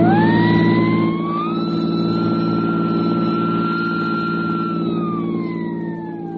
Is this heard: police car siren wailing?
yes